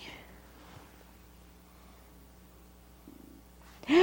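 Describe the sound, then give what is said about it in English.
A near-silent stretch with a faint low hum ends abruptly in a loud, rising meow, a child's voice imitating a cat, cut off as it begins. “You say meow, meow, meow. You see the kitty cat?”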